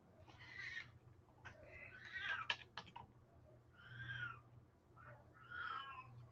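A female cat meows repeatedly, about four drawn-out, wavering cries spaced a second or so apart, over a low steady hum with a few faint clicks between calls.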